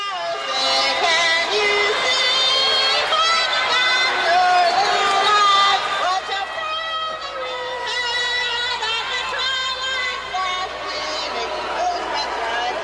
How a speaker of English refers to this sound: As you can tell, the crowd was booing her, even. But at least she was screaming it.